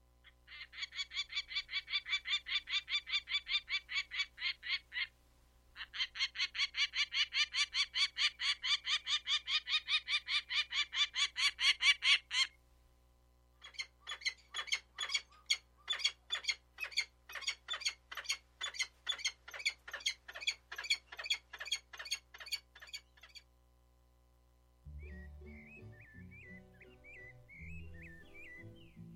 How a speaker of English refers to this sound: That recordings of Peregrine Falcon were from Stokes Field Guide to Bird Songs.